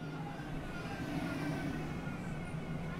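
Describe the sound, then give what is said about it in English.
A Westmoreland-bound DART light rail commuter train pulls into its downtown stop in Plano, Texas, its steady low rumble and electric motor whine droning continuously, with no voices. “That's the Westmoreland-bound DART train making its downtown stop.”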